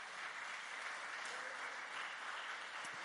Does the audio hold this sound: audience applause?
yes